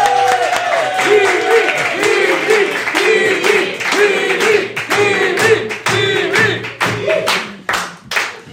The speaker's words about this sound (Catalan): En rebem un fort aplaudiment a ….